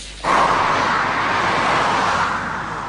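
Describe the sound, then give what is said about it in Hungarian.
A steady, loud roar of a car speeding at 160 km/h in the inside lane of the M7 motorway kicks in abruptly and holds as a broad rushing hiss, easing slightly near the end as it starts braking on seeing a speed camera, with no one talking. “A képen jól látszik, ahogy a belső sávban 160-nal megy egy autó, aztán fékezni kezd, amikor meglátja a trafipaxot az út mellett, már későn.”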